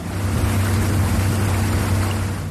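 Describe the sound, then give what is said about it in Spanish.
A boat's engine drones steadily on the San Juan River, a low humming motor over a constant rush of water and wind, with no voices. “Este es el río San Juan.”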